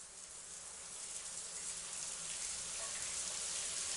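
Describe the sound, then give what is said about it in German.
A steady, dense hiss of hot shower water pouring down onto a man, continuous, growing slightly louder toward the end, with no voices. “Strömend prasselte das heiße Wasser auf ihn nieder, massierte seine Stirn, lief über seine Augen an seiner Nase entlang, über seine Wangen und Lippen.”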